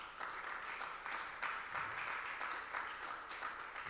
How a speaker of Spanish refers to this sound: Démosle un fuerte aplauso al Señor en esta noche.